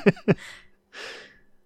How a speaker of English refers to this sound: to start it right in the middle of a yawn.